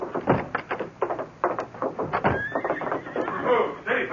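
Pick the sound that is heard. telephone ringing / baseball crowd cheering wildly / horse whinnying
horse whinnying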